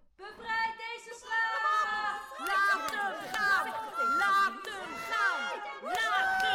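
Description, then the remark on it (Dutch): A dense arena audience of many voices shouting and clamoring at once, a loud, continuous roar of overlapping cries with no single voice standing out. “Bevrijd deze slaaf! Riep iemand uit het publiek.”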